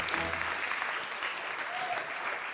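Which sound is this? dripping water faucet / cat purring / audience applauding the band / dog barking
audience applauding the band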